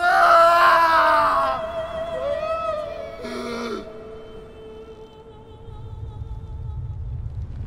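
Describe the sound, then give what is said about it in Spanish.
Jesus, crying out again as he gives up his spirit, lets out a loud, anguished cry that trails downward in pitch, followed by a shorter second outcry, then a low rumble builds underneath. No speech. “Entonces Jesús volvió a gritar y entregó su espíritu.”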